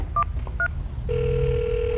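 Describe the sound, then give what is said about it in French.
A telephone number is dialed: a few quick keypad tones beep in a short irregular sequence, then a steady line tone hums on, fairly clear over a low background rumble. “Donne-moi ton téléphone.”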